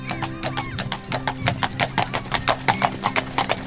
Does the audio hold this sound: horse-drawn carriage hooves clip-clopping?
yes